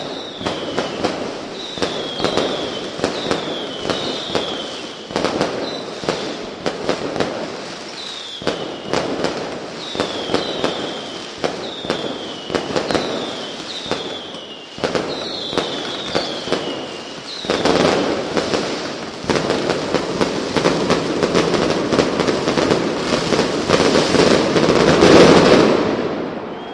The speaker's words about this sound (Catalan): Mientras, seguís el Castell de Focs.